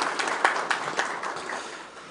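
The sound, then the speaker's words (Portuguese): A crowd giving a round of applause in tribute to a figure of workers' rights advocacy: dense, steady clapping with several sharper individual claps standing out, holding at a moderate level and tapering slightly toward the end. “Por isso, aceite com muito carinho, uma salva de palmas aí.”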